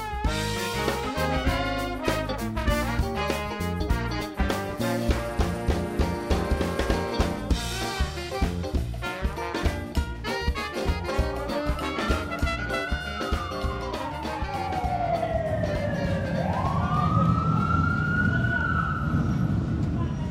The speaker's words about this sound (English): Two streetcar lines running between 6 lanes of traffic, Canal Street is the largest thoroughfare in New Orleans, bustling with people traipsing in and out of hotels, restaurants, and souvenir shops.